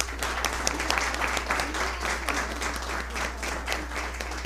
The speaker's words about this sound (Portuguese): Com uma calorosa salva de palmas, vamos receber a primeira prenda juvenil